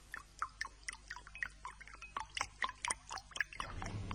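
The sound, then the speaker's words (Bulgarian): Quick splashy clicks and drips patter in an uneven rhythm, then a tap opens near the end and water starts running in a steady, moderate rush as someone washes. No one speaks. “Защо няма топла вода?”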